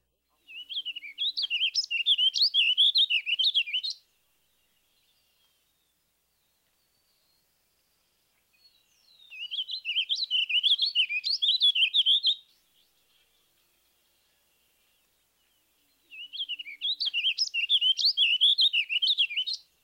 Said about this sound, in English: Listen to the warbling vireo's evenly measured tempo. Another good handle on the warbling vireo vocalization comes at the end of most phrases. Listen here for a distinct upward pitch.